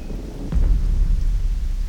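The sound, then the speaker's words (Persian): A thunderstorm: a deep roll of thunder swells up early on and rumbles on over a steady wash of heavy rain, with no voices present. “و طوفان 40 روز بر زمین ادامه داشت و آب زیاد شد”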